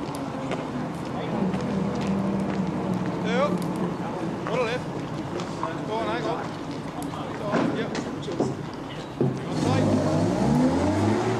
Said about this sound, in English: He moves aside so that a truck with a white star stenciled on the front can pass him.